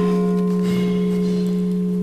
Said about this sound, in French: Ah, nous allons laisser passer la cloche, parce que nous n'avons pas les moyens de faire autrement, mais un très joli son, la cloche de Saint-Cyrien.